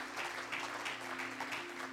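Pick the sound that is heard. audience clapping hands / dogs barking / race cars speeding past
audience clapping hands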